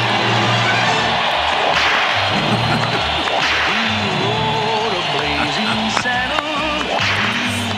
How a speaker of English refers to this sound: thank you so much, all of you, both of you, who were applauding there